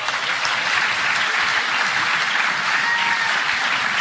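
A crowd claps steadily for about four seconds, a dense, loud wash of applause that holds even throughout with no voices standing out.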